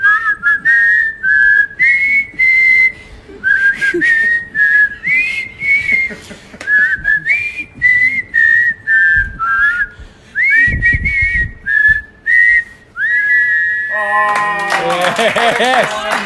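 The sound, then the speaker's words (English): Two people whistle a bright, wavering tune in short melodic phrases as a special presentation for about fourteen seconds, ending in a burst of clapping and noisy cheering. “We've got good air pressure coming out of our lips.”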